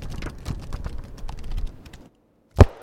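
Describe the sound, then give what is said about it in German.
Pages of an old book flip quickly, a steady papery rustle and crackle for about two seconds, then a short silence and one loud, dull thump. “Was für ein altes Buch ist das? Blättern wir mal durch.”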